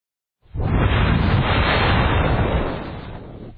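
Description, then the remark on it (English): A voice imitates water being poured from a barrel onto a sacrifice with one fairly loud rushing hiss that holds steady for about three seconds, then tapers off. No words are spoken. “And they pour it on the sacrifice.”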